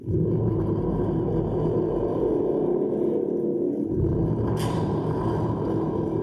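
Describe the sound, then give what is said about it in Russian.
A deep, rolling rumble of thunder fills the whole stretch, loud and sustained, with a brief sharper crackle near the end. No voices. “Загрохотал гром.”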